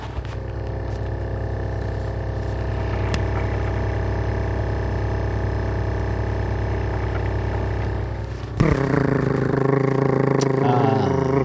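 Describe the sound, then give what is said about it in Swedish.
A kitchen fan meant to move cold air has been knocked askew, so its blade rubs against a plastic cover inside on every rotation. It drones loudly and steadily with a continuous grinding scrape; near the end a voice starts talking over the noise. “Och den har liksom på något sätt gått, liksom hamnat lite på sniskan, så den går emot plasten. En kåpa där inne så här, på varje liksom varv som fläkten gör.”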